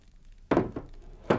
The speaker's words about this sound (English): Put down the chair.